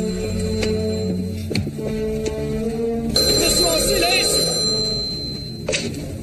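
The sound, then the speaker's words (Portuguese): A telephone rings steadily and loudly through the whole moment, while a voice shouts over it amid busy background noise. “Telefone, cadê? Telefone!”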